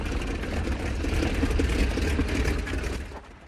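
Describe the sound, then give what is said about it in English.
A biplane's engine rumbles steadily at low throttle as it taxis on a runway over to cadets after landing, with a heavy, throbbing low end and a rough mechanical buzz, then fades out toward the end. No voices. “The biplane lands on the runway and taxis over to the cadets.”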